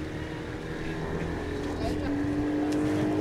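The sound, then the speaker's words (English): A motorboat engine drones steadily on a river below rapids, the boat carrying Munduruku villagers home, a constant low rumble with a tonal hum that swells slightly louder partway through, with faint voices mixed underneath. “She offers to give some a ride home on our boat.”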